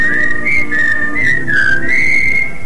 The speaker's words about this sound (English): Just a little whistle.